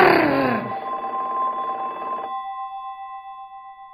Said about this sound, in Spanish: ¡El teléfono!